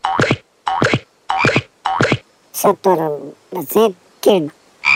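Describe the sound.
A frog croaks four times in a quick, evenly spaced series of loud ribbits, followed by excited voices talking.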